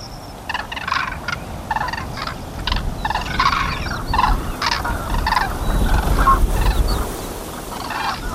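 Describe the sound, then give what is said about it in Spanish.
Common cranes give loud, repeated bugling calls in overlapping bursts throughout, while a strong, steady wind roars and buffets underneath. Recorded on a plateau 1,000 metres high between Zaragoza and Teruel, Spain, with the cranes flying against the wind and barely moving. “Grullas pocas, viento muchísimo, pero si brama el viento, más gritan las grullas.”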